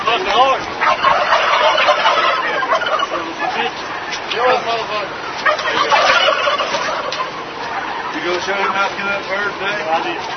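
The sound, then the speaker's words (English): A dense chorus of turkeys gobbling continuously in a turkey slaughterhouse of a top turkey producer, many overlapping calls, loud, with a crowded flock's warbling chatter filling the whole stretch without pause. “Many investigations into chicken and turkey slaughterhouses have revealed shocking cruelty that goes beyond the standard abuses, such as this recent footage from a top turkey producer.”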